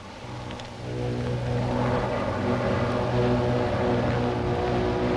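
Fighter planes drone overhead as they cross the path of incoming German aircraft, a steady, loud engine roar with a throbbing low hum that swells after the first second and holds. No voices are heard.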